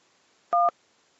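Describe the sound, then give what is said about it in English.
A single telephone keypad beep, used to give a rating of 1 out of 5: one short steady dual-tone press lasting about a fifth of a second, sounding alone against near silence with no voices. “Okay, so you can beep in.”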